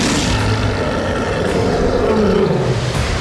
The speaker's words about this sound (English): A mighty roar rang out across the valley.